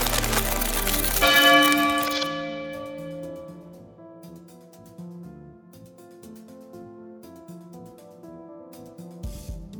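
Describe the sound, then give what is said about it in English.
A loud crashing impact gives way to a big iron church bell ringing out, its deep metallic tone humming and slowly fading over several seconds, with no one talking. “I think she's planning to lure him here. Use the bell as a weapon.”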